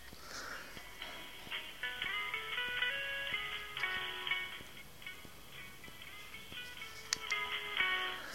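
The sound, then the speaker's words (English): Cheesy phone queue hold music plays on its own, a simple stepping synth melody over sustained chords, with a thin, tinny telephone-line sound and no talking. “I'm currently waiting in a queue, general phone queue here, listening to this awful cheesy music.”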